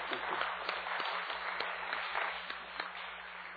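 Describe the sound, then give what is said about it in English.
A crowd applauds steadily, a dense crackle of many hands clapping at an even, fairly loud level without letting up, with no voices heard over it. “He deserves a applause for that and a big thank you.”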